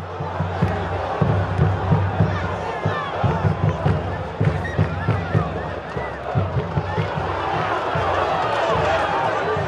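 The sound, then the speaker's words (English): A dense crowd of passionate fans in a stadium roars, sings and chants together, voices blending into a loud, continuous wall of sound, with rhythmic low thumps of huge 10-foot drums pulsing steadily underneath. “They are out of their minds singing in huge 10-foot drums.”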